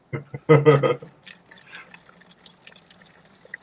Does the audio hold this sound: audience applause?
no